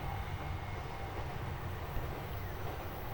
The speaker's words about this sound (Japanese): あとさ、このさ、列車のコトンコトンの音、ゆっくりな、これは線路の音？うん。優しい音だね。